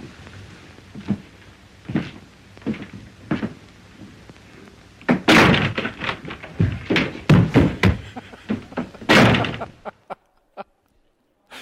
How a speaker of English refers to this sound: Hey, my friends, which door are you knocking on?